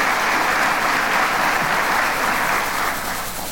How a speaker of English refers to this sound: How about a round of applause for the council members?